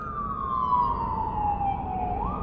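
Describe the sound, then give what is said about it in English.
A siren wails steadily outside, its tone sliding slowly downward before rising again, heard from a car parked at a gym, over a low rumble of traffic or an idling car. “So every day, sirens, listen, I'm about to go in the gym, y'all.”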